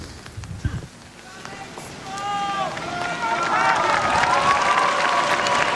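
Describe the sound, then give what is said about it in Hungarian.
A large crowd breaks into applause that swells and grows steadily louder, mixed with scattered whistles and shouted cheers rising over the clapping, greeting and thanking the Holy Father for his words and his blessing. “És ma is tapsal és akár fügyszóval is, vagy bekiabálással köszöntik, és köszönik meg a Szentatyának a szavait, az ő áldását.”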